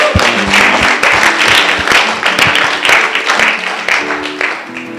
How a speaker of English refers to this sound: Let's just give a clap for just God's goodness.